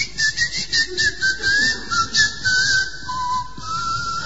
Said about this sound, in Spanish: Por eso es el chiflido. Pero antes era mi voz, hasta que me quedé afónico como hoy y tuve que dormir afuera. Entonces lo cambié por el chiflido.